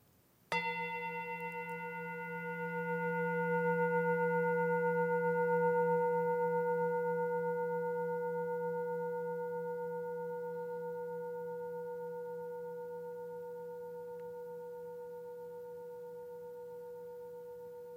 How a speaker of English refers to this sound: Listen deeply to the sound of this bell.